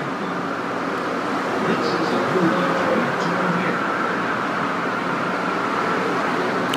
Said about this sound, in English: In case you're wondering why there's so much noise, exactly, it is that we're actually, this train line is in the middle of what they call a freeway, but dual carriageway. All that noise is passing cars, not the train system at all.